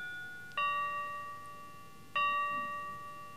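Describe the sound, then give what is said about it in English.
A church bell at St. Timothy's tolls twice, almost at midnight, about a second and a half apart, each strike ringing out with a bright, lingering hum that slowly fades over a quiet background. “Listen, the bell's from St. Timothy's. It's almost midnight.”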